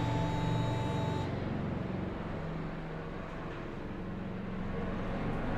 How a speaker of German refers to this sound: Man hört einen Flieger vorbeifliegen. Eine Art Helikopter im Hintergrund.